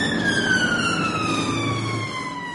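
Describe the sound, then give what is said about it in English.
A loud ambulance siren wails at an accident scene in Britain, its tone sliding steadily downward as it passes, with a low rumble of traffic beneath and no voices. “From the ambulance to the hospital ward, the British taxpayer picks up the bills”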